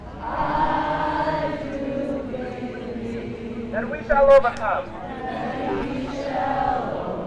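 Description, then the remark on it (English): A large crowd at a rally in Oakland, linking arms, sings together slowly, many voices blending into a sustained, smeared chorus that holds steady throughout, with a brief louder swell near the end. “asked the crowd to link arms and sing.”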